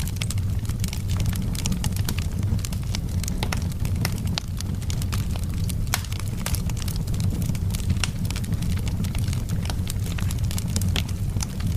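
A wood fire burns inside a house, crackling steadily with frequent sharp pops and snaps scattered irregularly over a constant low, rumbling roar of flames. Fairly loud, with no voices.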